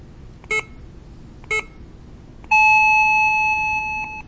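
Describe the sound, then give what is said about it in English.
Two short electronic beeps a second apart, followed by a longer steady tone lasting almost two seconds, clear with no one speaking: a digital clock's hourly chime sounding at 10 o'clock. “All right, that's our hourly chime.”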